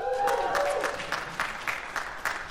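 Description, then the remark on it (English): A small audience claps steadily to vote on who won a draft, with sharp individual claps ringing out over a softer wash of applause, while a brief voice-like tone sounds at the very start. “Katie Drummond clapped for me, so I won the draft.”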